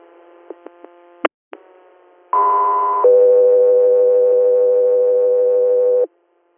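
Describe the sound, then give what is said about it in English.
A few sharp clicks, then a loud two-tone dispatch alert: a short higher steady tone followed by a longer lower tone holding for about three seconds, with no voices. “Air, stand by for tones.”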